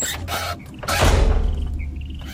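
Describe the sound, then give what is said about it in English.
A door swings shut with a creak and lands with a heavy thud, followed by a brief fading rattle, with no voices. “I'm going to shut the door now”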